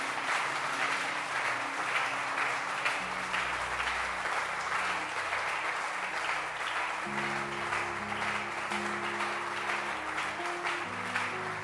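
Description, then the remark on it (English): A church audience claps hands after a prayer in sustained, dense applause that holds steady for the whole stretch, with a low organ-like sustained tone underneath and no speech over it. “Clap your hands.”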